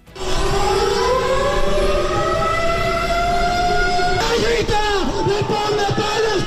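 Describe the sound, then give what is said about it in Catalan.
Loud air raid sirens of a bombing simulation wail continuously during a protest in Palma against Israel's offensive in Gaza, as protesters lie on the ground in the avenues; their rising and falling pitch sweeps in long arcs over a dense background of crowd noise, steady throughout. “Aquestes són les sirenes del simulacre de bombardeig en què els manifestants s'han estès a terra, les avingudes de Palma i els clams posteriors.”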